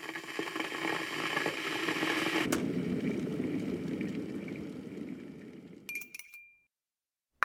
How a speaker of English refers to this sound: I'm just going to put some hot water on my tea bags.